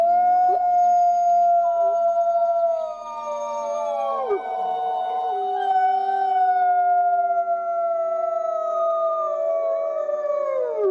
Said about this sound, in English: Wolves generally, when they howl, the whole sanctuary will erupt usually. Like it was 63 animals, the maximum capacity at the time that I was working there. I mean, that's 63 wolves that are howling in unison in chorus.